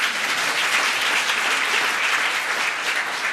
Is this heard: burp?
no